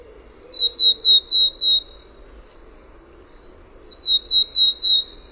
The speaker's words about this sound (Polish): Piosenka Czarnogłówki jest przy tym żwawsza, a dźwięki wydawane są seriami.